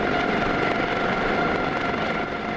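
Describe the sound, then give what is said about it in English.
An Australian Seahawk helicopter performing a winch manoeuvre while hovering over the flight deck of the Chinese Navy frigate Luoyang: a steady, loud engine and rotor roar that holds even throughout, with no voices. “As an Australian Seahawk helicopter performs a daring winch manoeuvre, hovering above the flight deck of the Chinese frigate”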